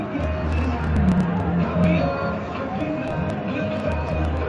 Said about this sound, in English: Here's the call. Illegal kick out of bounds. 10-yard penalty. First down. Crowd booing. It was the right call.